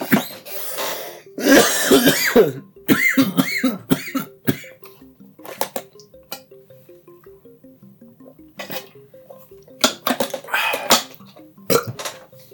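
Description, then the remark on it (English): A harsh fit of coughing with throat clearing after taking a hit: a dense cluster of bursts early on, then scattered single coughs and hacks over a faint, quiet background. “I promise I'm not gonna cough this time.”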